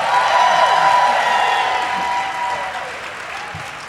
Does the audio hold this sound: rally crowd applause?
yes